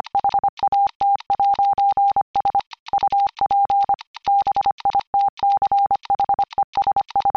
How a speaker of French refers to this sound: Pour vous donner une idée, juste dire « What's up, bitches » en code morse, c'est...